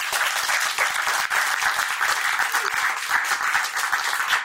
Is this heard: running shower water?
no